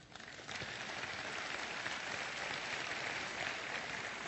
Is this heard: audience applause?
yes